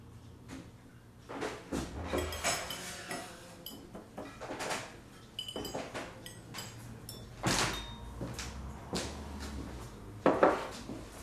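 The door of an inn opens with a series of clunks and scrapes, followed by scattered clatter of dishes and cutlery as the innkeeper works, with few guests and no one talking.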